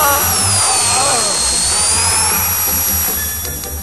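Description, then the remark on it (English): A power drill whirs steadily at a high pitch, loud, holding its whine for several seconds with a low rumble underneath before easing off slightly at the end. “Keep a firm track of things like scalpels, swabs, and power drills.”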